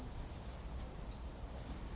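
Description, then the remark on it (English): A steady, low rumble of road traffic hums quietly and continuously in the background, with no speech and no distinct passing vehicles standing out. “Well, the sound of my voice and the sound of the traffic does not interfere with this sound of silence.”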